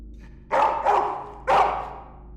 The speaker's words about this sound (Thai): ปั่นไปไม่ถึงครึ่งซอยก็มีสุนัขมาไล่เห่าเราแบบเอาเป็นเอาตายน่ากลัวมาก